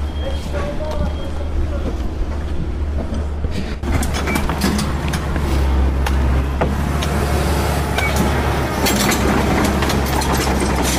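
Street roadworks with construction machinery on Rue de la République in Pontarlier, France: a steady, loud engine rumble fills the scene, broken by occasional sharp metallic clanks and scrapes, with busy street noise all around.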